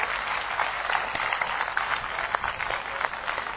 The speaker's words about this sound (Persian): هر دو رو تشویق کنین، بشینین بگم چی شد.